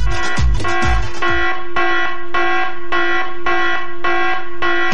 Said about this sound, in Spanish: Esa es la alarma que ustedes van a escuchar. Y cuando suene, ustedes saben, viene una letra.